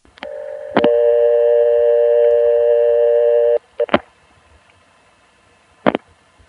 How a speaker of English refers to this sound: It's very hard to hear with this low tape quality, but if you listen carefully, you can tell that we picked up the phone, dialed a one, cut into the 2600 toll trunk, and then were somehow clicked off onto the local recording.